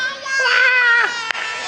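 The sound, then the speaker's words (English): Several young voices imitate a baby crying together, a single drawn-out, wavering wail lasting about a second, fairly loud, followed by a brief sharp tap. “Can you guys do a baby noise?”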